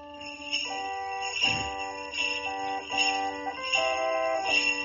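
Hand bells, shaken with one hand by a woman who plays the organ with her other hand, ring and shimmer continuously over a slow organ melody whose sustained chords shift every second or so. Fairly loud, with no voices.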